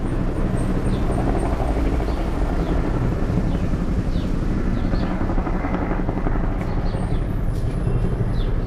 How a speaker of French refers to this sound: À Kaboul, il faut s'habituer au bel incessant des hélicoptères de l'OTAN et de l'ONU qui survolent la capitale à basse altitude,